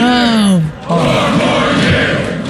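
A loud crowd chants the slogan "four more years" in unison. One strong voice leads with a falling shout, then many voices swell together in a dense, steady roar.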